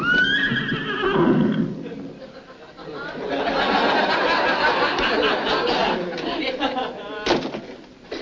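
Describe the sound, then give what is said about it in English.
A horse in a general's bedroom on a military post whinnies loudly, a shrill rising-and-falling neigh at the start, followed by snorting, stamping and a sharp bang near the end. “General on inspection. Finds a horse in his bedroom.”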